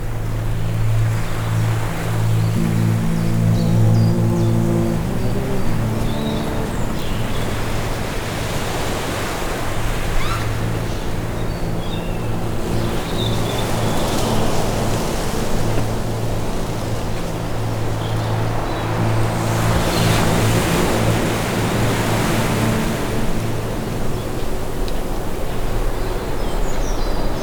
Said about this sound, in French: Vent marin s'engouffre à travers les bosquets. Il nous donne l'élan du voyage.